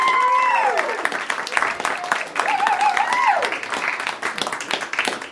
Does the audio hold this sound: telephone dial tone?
no